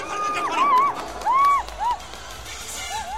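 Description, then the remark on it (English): Spectators in the stands at a bullfight in Chungdo cheer, with individual voices whooping and shouting in rising and falling swoops over a steady, noisy roar of many people for about three seconds. “Up in the stands, spectators cheer.”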